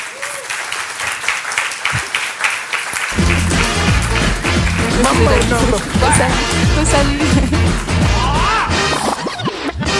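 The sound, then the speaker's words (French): Loud, dense clapping from an audience welcoming three guests fills the whole stretch, and after a few seconds upbeat music with a thumping bass line starts underneath the continuing applause. “Alors, j'aimerais maintenant accueillir trois invités avec un tonnerre d'applaudissements.”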